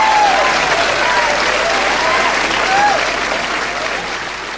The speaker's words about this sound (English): Once again, obviously, a live recording with a lot of applause.